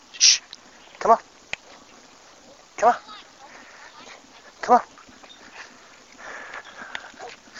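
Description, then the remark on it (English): A dog named Odie barks at a neighbor three separate times, each sharp bark spaced roughly two seconds apart, loud, with quieter background noise in between. “So, anyway, he was barking at a neighbor.”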